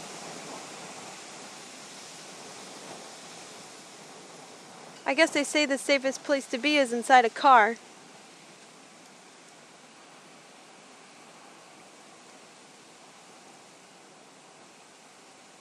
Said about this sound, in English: Of course, now the thunder's not as dramatic as it was before. You can hear the wind and the flagpole. Okay, the car's rocking.